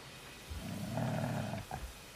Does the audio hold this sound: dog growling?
yes